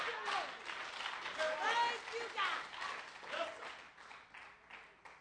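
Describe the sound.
A standing audience claps hands in praise to God, a dense, steady wash of applause with scattered voices calling out over it, easing slightly toward the end.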